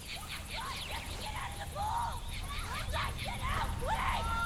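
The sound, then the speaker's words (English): Several people scream and shriek at once by a pool, their overlapping cries rising and falling in quick bursts over a steady low rumble, fairly loud throughout. “Hearing the screams, Leah runs to find …, … and … standing by the pool”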